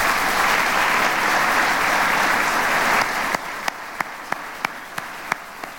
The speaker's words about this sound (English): Our Majority Leader could not be here with us tonight because she is working hard on our behalf in Albany, but she does have staff here, so please give them a round of applause.